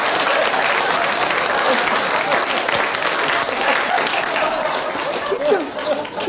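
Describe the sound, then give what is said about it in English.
A seated audience gives a sustained ovation that fills the whole stretch, a dense steady patter of many hands clapping at once, loud, with a faint voice or cheer surfacing near the end. “Just, I would never talk through applause as a professional.”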